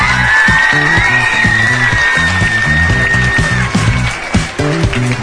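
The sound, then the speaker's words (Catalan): A loud, steady burst of audience applause with cheers and whoops for the Institut de Palamós team, rivals at the Picalletres 2024 final, carrying on for several seconds over a bright backing of music. “Jo crec que us mereixeu aquest fort aplaudiment per haver arribat fins aquí.”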